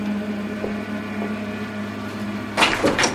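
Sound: locked door being tried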